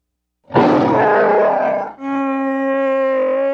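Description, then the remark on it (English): A loud Wookiee roar of frustration while punching a hole in a wall: a harsh, gravelly bellow that shifts after a brief catch into a sustained, strained howl. It lasts a few seconds, with no talking. “roared his frustration and punched another hole in the wall.”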